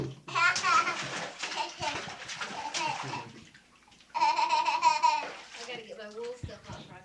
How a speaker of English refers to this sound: Now, y'all splash around in there.